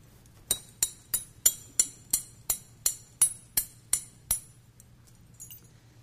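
Keys jingle in a steady rhythm, about a dozen bright metallic clinks evenly spaced, each ringing briefly before the next, then trailing off into a few faint taps, with no talking.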